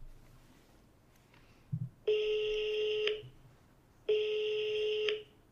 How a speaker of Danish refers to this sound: Altså, så vil jeg ringe til min søster. Ja, kan vi gøre det? Altså, vi kan prøve at se, om hun tager den.